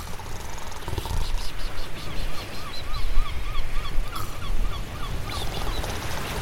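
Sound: seagulls calling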